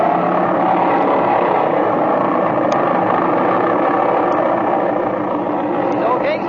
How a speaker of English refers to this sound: Set your brakes, rev the engine up, see that it's hitting on both mags, and if it is, take her off.